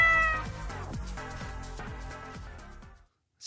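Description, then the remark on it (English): A cat meows in one long, drawn-out, wavering yowl, loud, lasting about three seconds before cutting to silence. A brief burst of sound follows at the very end. “No cats were harmed in the filming of this sketch.”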